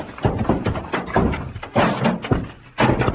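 Stacked packing cases topple and crash down in a loud tumble of heavy thuds and wooden clatter, several impacts piling onto one another over a few seconds.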